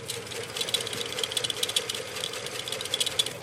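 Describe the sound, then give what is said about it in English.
A microfilm reader at the Boston Public Library winds a film of the Boston Herald, January 1919, with a steady mechanical whir and a fast, uneven rattling clatter running throughout, moderately loud, with no voices. “He opens a small box labeled Boston Herald, January 1919, and unwinds a ribbon of glossy black film.”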